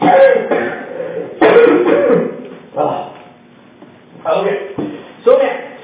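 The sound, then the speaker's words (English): A loud bout of coughing and throat clearing from a speaker pausing during a Bible teaching, several harsh bursts in quick succession with short pauses between them, no talking over it. “Pardon me while I cough.”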